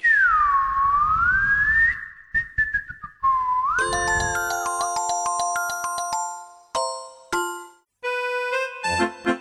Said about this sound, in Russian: Научитесь свистеть так, как они. Вот как я.